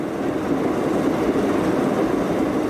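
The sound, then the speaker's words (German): A steady, dense rushing noise from a good dozen old suitcase record players in a row, their needles running on the bare platters, in an art work by Marianne Halter and Mario Marchisella. Together they blend into a continuous sea-like roar with a low rumble and no pauses or voices. “Ein gutes Dutzend alte Kofferplattenspieler stehen in einer Reihe, aber die Nadel läuft nicht auf einer Platte, sondern auf dem Teller.”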